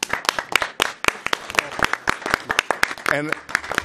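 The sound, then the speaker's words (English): A round of applause from meeting attendees for their year's work: many sharp, overlapping claps in a brisk, steady patter for about four seconds, with a brief voiced shout or cheer rising above the clapping near the end. “So for that, I think all of us should give everyone, yourselves, a round of applause.”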